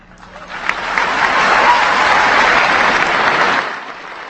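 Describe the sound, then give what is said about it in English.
Sustained applause from a large crowd during a speech by President Obama on removing US troops from Iraq, a dense steady roar of clapping that swells quickly, holds loud for a few seconds, then begins to taper off. “And the applause went on and on there”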